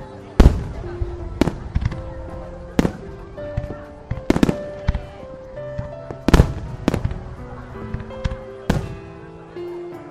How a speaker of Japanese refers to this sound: 綺麗な花火だな。 また来年も見に来れたらいいね、みんなで。